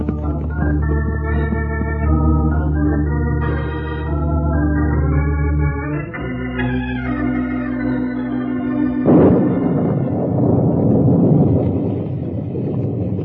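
A sustained orchestral music passage gives way to a sudden broad rumbling crash of thunder from lightning up ahead, rolling on loudly beneath the fading music until the end.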